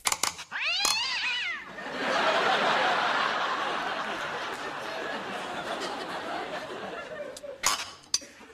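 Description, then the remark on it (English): A few sharp metallic hammer blows drive a cat's paw under a nail head, then a long grinding, creaking screech as the nail is pried out, ending with more quick strikes. “You simply pound it with your hammer, making sure that the cat's paw go underneath the nail head. Then just pull.”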